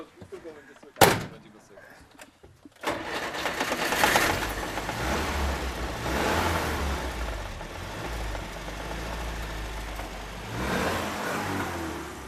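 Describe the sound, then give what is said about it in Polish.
A door slams once, then after a short pause an old vehicle engine is started and keeps running with a loud, rough, steady rumble. “Zresztą ruch naczelnik tutaj go odpalał, nim jechał, więc myślę, że on go zaraz odpali.”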